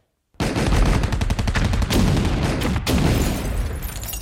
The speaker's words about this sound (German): Und hinterher steht in der Zeitung, das Gebäude war dem Beschuss nicht gewachsen.